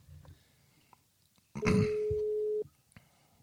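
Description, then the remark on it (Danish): A phone ringing tone sounds while a phone call is being dialed and connects: one steady electronic beep lasting about a second, loud, with faint rustling and small noises before and after. “Se, den ringer op i hvert fald.”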